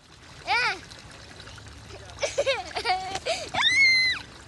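Water is splashed at someone in a few short bursts while a child's high, wavering squeals and calls rise over the splashing.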